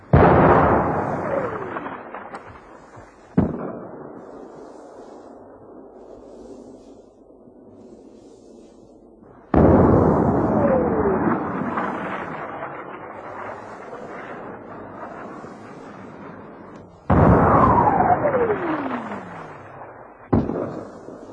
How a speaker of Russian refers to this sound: Звукоператор сел в окопе с микрофоном в руке. Орудия открыли стрельбу. Боевые снаряды со свистом пролетали мимо и разрывались в нескольких сотнях метров от окопа. Запись получилась отличная.